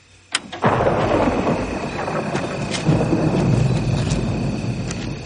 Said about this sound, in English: Of course, I love how we're hearing the thunder crash, the lightning, the tensions rising, the storms coming. Yeah. It builds up to a great moment.